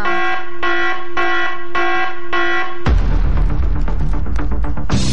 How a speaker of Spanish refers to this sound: Esa alarma.